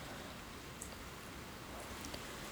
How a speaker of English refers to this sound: You can stand out there in the rain.